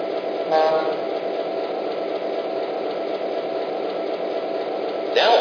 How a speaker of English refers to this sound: Now departing for Chicago on track 1, train number 207, the Union.